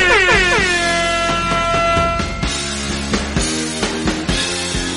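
A loud air horn blasts with strong harmonic tones that bend downward at the start, then sustains while rhythmic thumps and clatter pulse underneath until the end, with no talking.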